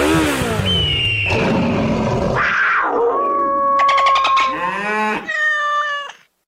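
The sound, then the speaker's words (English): In a Progressive motorcycle insurance radio ad, a sound effects man imitates a motorcycle engine revving, with loud, wailing tones that rise and fall in several bursts and end in a strained, yowling whine with no other talk. “At Progressive, we know there's nothing like the feeling of riding a motorcycle with your crew on the open road.”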